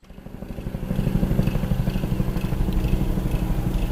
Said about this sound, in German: So klingt es seit dem frühen Montagnachmittag über den 10 Kilometer voneinander entfernt liegenden Absturzstellen. Hubschrauber der Bundeswehr kreisen in der Luft mit dem vordringlichen Ziel, die Piloten zu finden.